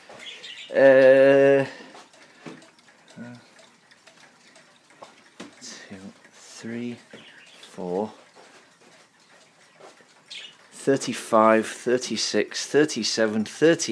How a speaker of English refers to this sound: And they're starting to go now. So you're hearing the sound of 41 clocks. Ranging from cuckoos to mantles.